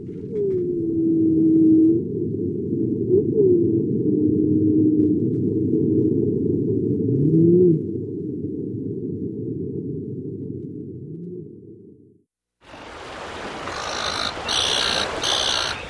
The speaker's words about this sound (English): We'll go out with humpback whales off Alaska.